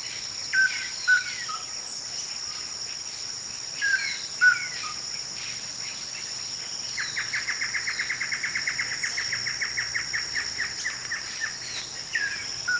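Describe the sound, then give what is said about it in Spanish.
Many birds around a house chirp and tweet intermittently over a steady high insect drone, with a rapid repeated trill of notes running for a few seconds midway; no one speaks. “Escucha esos pájaros. Hay un montón de pájaros en esta casa.”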